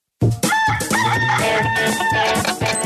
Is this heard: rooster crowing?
yes